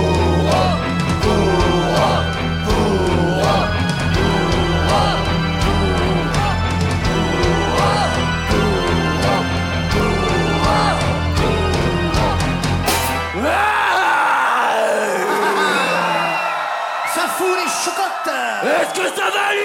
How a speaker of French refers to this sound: J'adore quand vous criez, j'adore quand vous hurlez.